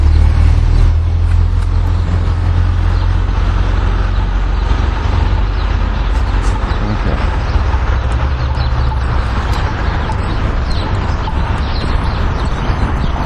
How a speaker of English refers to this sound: There's traffic clear up here.